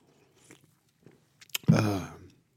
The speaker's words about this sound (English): Let me grab a sip here of my diet root beer.